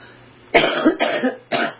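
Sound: cough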